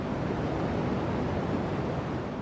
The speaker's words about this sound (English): But really, I think the deep throb of cosmic background radiation.